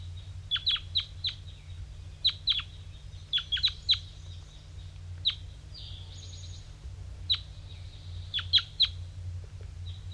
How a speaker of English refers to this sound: Other wild birds are flying in.